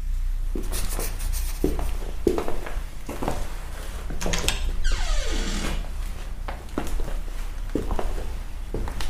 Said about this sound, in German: Dennoch hielt ich das Bild, das sich in meinem Geist von der Anordnung der Räume manifestiert hatte, auf einem Blatt Papier fest.